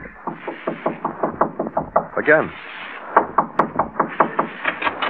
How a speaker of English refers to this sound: Go in that vestibule and knock on the door.